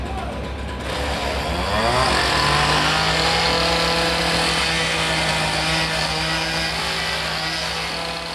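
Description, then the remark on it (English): Loud street traffic on Second Avenue: after a brief lull, an engine revs up and holds a steady drone, with a constant wash of other vehicles and city noise filling the background. “And as you could see, the traffic down Second Avenue is very bad.”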